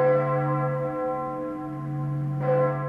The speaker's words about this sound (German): Das Alter reicht bis ins Ende des 15. Jahrhunderts zurück. Und die Glocke aus der bedeutendsten Kirche ist die größte von den Glocken aus St. Jakobus in Neiße. Die ist eine Kirche, die zeitweilig Hauptkirche des Fürstbistums Breslau war.